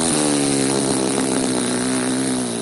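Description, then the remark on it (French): A malfunctioning refrigerator, as it stops, gives off a loud, steady, buzzing motor drone with a rough, rattling low hum. It holds for nearly three seconds, easing slightly at the very end, with no voices. “C'est ça que ça fait un frigo qui fonctionne pas bien.”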